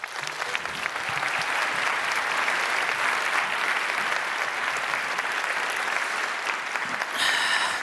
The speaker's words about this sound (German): Einen wunderbaren Applaus bitte